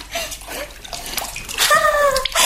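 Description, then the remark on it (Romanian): Water gushes steadily from a tap, a broad rushing hiss that swells louder toward the end, with brief whistling, gurgling tones rising over the flow. “Iată și apa.”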